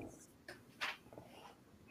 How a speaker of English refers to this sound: Are you writing that down? Well, I'm trying to come up with something funny here.